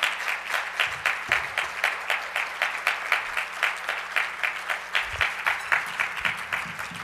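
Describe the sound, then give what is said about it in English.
A steady round of applause, added for a spoken word performance of a book, from a small group. Many hands clap in dense, overlapping bursts that hold an even level for several seconds with no talking over it. “I think we gotta add a little applause there for Paul's spoken word performance of that book.”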